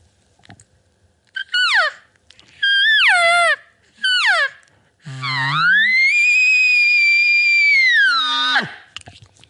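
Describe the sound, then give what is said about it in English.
An elk bugle blown on a double-reed latex diaphragm call: three short, squealing rising-and-falling notes, then a long, loud, high whistling scream that holds steady before sliding down at the end. No talking. “It's going to be a little bit hard to control as an elk call, but I could make it work, especially for a bugle.”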